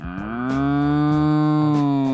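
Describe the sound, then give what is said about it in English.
A single long, loud cow moo, a steady low bellow that holds for about two seconds, clear with no talking over it. “Think of cows, do you just hear Helen Hunt? Same cow. Same cow.”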